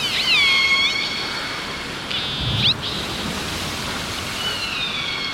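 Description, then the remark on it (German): Whale song recorded underwater: high, gliding whale calls rise and fall over a steady hiss of underwater noise, with several tonal whistles and squeals in short bursts and no talking. “Wir nennen das Walgesang und es klingt auch etwas wie Singen, wenn man Unterwasseraufnahmen davon hört.”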